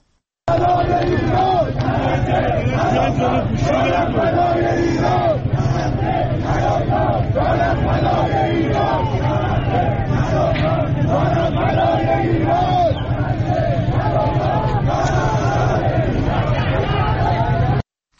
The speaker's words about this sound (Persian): در ویدیوهای دریافتی از بازار میوه و تره‌بار تهران، معترضان شعار می‌دهند نه غزه نه لبنان، جانم فدای ایران.